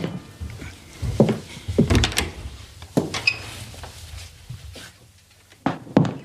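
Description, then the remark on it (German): A door is opened with a series of wooden knocks, scrapes and thunks, then a short quiet stretch and a final sharp bump near the end, with no talking. “Na, dann wollen wir doch mal sehen, was sich hinter dieser Tür hier befindet.”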